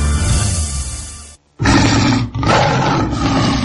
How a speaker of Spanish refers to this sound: Así rugen los tigres blancos y tigresas doradas del Gran Circo Mundial en Guadalajara. Recinto ferial.